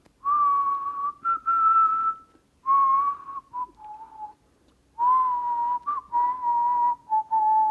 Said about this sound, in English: And then I hear a response. And I try out all my ANC tunes and there's no response. And eventually, the Dvorak going home theme. Yeah. and somebody whistles back.